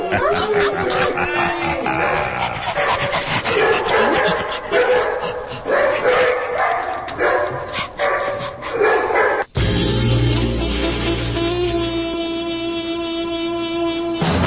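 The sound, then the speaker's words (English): A dog named Einstein barks and yaps loudly in a rapid, repeated burst for several seconds, then shifts into a steadier, drawn-out whining tone. “All in favor of endorsing Einstein, the dog, for mayor, say aye.”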